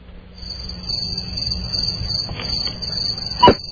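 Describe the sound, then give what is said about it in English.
A steady, high-pitched chorus of chirping crickets, played as a sound effect on the Don and Mike Show, rings continuously for several seconds, with a brief louder click near the end and no voices. “Hey, Crickets worked real well that time. Right on. Welcome back, Crickets.”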